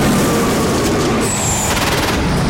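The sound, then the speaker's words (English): A train thunders past on a railway line at night, a loud, steady rumbling wash of noise with a thin metallic squeal midway and a rapid rhythmic clatter of wheels toward the end. “He suddenly looks up and jumps off the line as a train thunders past.”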